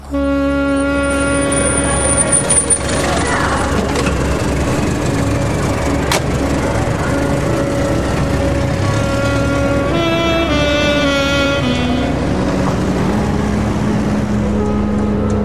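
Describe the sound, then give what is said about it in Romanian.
A taxi's steady, loud engine drone fills the scene as it drives toward the city centre in America through jammed, busy traffic, its humming tones shifting now and then. No one speaks. “Taxiul a luat-o spre centru, iar traficul e o nebunie.”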